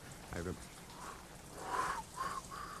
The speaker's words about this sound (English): Can you whistle